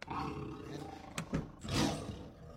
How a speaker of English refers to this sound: Oh my! That's a tiger.